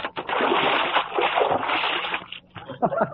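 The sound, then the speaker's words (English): A bucket of water rigged over a door tips as the door opens, dumping out in one big splash, followed by messy splattering and sloshing as it hits the floor, loud. “I rigged up a bucket of water over the door, and when the principal opens the door, it'll tip the bucket.”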